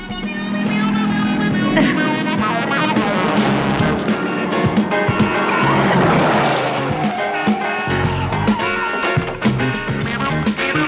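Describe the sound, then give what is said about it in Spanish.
A loud, energetic instrumental theme tune in the style of a 1970s police TV series plays continuously for the whole stretch, with dense brassy layers and a driving beat, with no voices. “¿Cuánta gente estará pensando ahora, ay, ¿de qué me suena esta música?”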